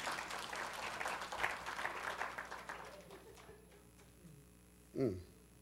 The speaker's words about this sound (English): Now clap your hands if you understand what I'm talking about.